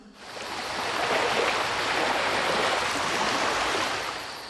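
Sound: waves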